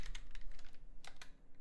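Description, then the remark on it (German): Rapid, irregular tapping clicks of someone typing a WhatsApp message on a phone, roughly a dozen soft, crisp taps in a quick burst with a short pause, no voices. “Weil ich muss ihm mal kurz auf WhatsApp schreiben, dass ich ihn noch höre.”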